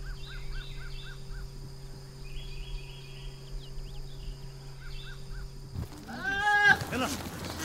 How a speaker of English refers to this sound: Ahead, yes, those are goats in those trees. There are some animals you expect to see up in a tree. Birds, squirrels, cats, perhaps. But goats? Jonathan Vigliotti has sent us this postcard from Morocco.